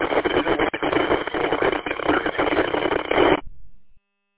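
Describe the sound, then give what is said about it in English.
Dense, hissing radio static crackles steadily for about three and a half seconds, thin and band-limited like a transmission, then cuts off abruptly and fades into silence. “Nothing but crackle on this end.”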